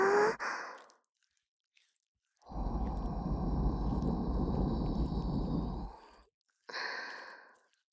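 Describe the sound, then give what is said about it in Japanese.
A soft, breathy exhale blown toward the ear to soothe, a long steady whoosh of air followed by a shorter puff, with quiet pauses between. “吐息で甘やかしまっちゅよ。”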